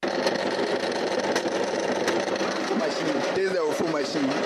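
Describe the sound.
A newly invented fufu pounding machine, demonstrated in Accra, Ghana, pounds the ingredients for fufu with a steady, dense mechanical whir and rattle that holds constant throughout, while a voice briefly speaks over it near the end.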